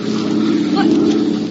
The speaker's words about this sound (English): The plane's going away. They didn't see us.